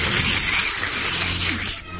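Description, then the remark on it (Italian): A long, noisy slurp of wine sucked in with air during wine tasting, a steady airy hiss with faint gurgling that runs for nearly two seconds and then cuts off abruptly. No one speaks. “L'importante è che la succione avvenga in maniera rumorosa. Vi mostro come.”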